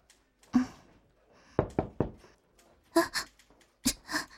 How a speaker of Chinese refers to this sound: 有人敲门啊！